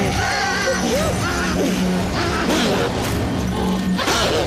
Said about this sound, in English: The windows implode and Beth is thrown to the floor. She crawls on her hands and knees as splintered glass rains down around her.